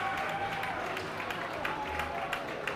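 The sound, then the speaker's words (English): A concert crowd at the 930 Club cheers and applauds as a band leaves the stage at the end of its set, a dense, steady wash of clapping with scattered sharper claps and shouts running through the whole stretch at an even, loud level. “Thrill crowd here at the 930 Club.”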